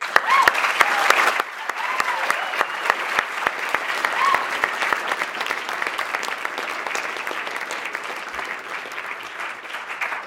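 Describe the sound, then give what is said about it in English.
An audience at the 2011 Life Raft Debate claps steadily for about ten seconds to thank the participating professors, a dense rattle of many hands that is loudest at the start and eases slightly as it continues, with a few voices faintly mixed in. “I'd like to pause and thank all the participating professors for a lively debate, and with a round of applause.”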